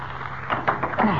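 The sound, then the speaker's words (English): A big, rusty padlock on a door is wrenched and snapped apart by hand: a few sharp, irregular metallic clanks and rattles over about a second, with a final cracking clunk as the lock gives way. “Oh, but there's a big padlock on it. Uh-huh. The padlock looks rusty. Maybe I can snap it.”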